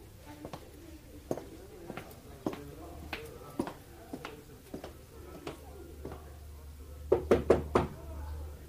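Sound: knocking on a door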